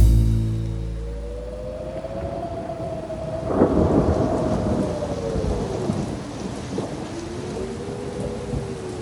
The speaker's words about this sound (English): It was a dark and rainy night. Even the moonlight had given up any chance of breaking through the foul weather below.